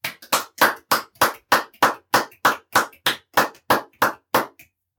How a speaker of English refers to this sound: So clap your hands now in praise of God's glorious creation and the hope of new possibilities for our world.